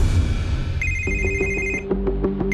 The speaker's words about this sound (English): At 3 o'clock in the morning, I got a phone call